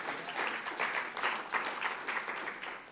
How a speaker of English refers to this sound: Come on. Give the Lord a clap, hey?